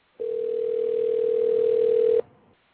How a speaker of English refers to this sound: That is Chuck's phone ringing. There it goes again.